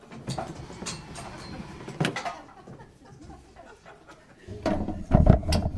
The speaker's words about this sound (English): I think I'm going to pull the table over here because I think it is the location. We'll see.